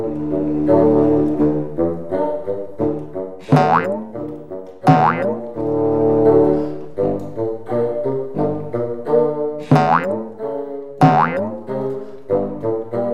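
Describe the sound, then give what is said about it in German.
A cartoonish troll footsteps effect: plodding, bouncy low musical notes step along steadily, punctuated by several loud springy boing swoops, with no voices. “Zur Erinnerung, so hören sich Trollschritte an.”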